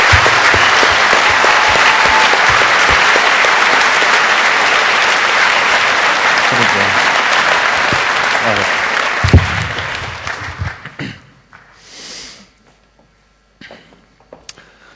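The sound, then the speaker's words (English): A large audience claps loudly and steadily for about ten seconds for the NOC team, then the applause thins out and fades into scattered claps, a few footsteps and quiet background noise. “And one final round of applause for the rest of your NOC team, because there were quite a few people involved and they worked very hard.”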